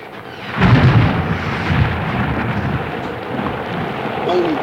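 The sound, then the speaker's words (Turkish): Heavy rain pours down fast in cold weather in a dense, steady roar, with a deep rumble of thunder swelling near the start and fading back into the downpour. “Yağmur da ne kadar hızlı yağıyor.”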